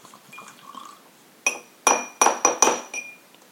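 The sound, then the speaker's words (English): A miniature glass bottle clinks several times against a glass in quick, uneven taps while a drink is poured, bright ringing tones over faint liquid sounds, with no one talking. “I feel like if I pour a little bit more, which I'm about to do right now.”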